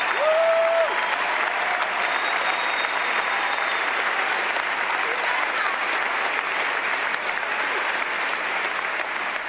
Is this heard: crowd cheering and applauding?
yes